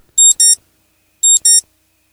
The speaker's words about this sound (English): So I thought maybe we could go through some of these other options. You guys could tell me if there's one that seems reasonable. Okay. All right. So this is alarm beep 01.